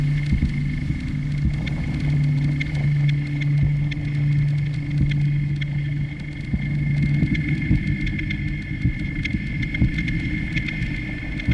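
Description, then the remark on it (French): A steady engine hum from inside a moving car driving a few kilometres to a geothermal power plant, with a constant low drone and road rumble running unbroken throughout, fairly loud, with no voices. “On va reprendre la voiture, c'est à quelques kilomètres.”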